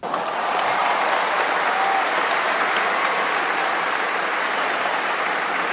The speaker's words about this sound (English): There you go. There's some applause for you.